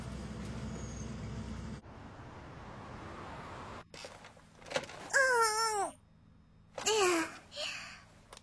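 Inside a bus, a low engine rumble fades to a quieter hum. Then come two loud, wavering squeals with airy hiss as the air brakes engage and release.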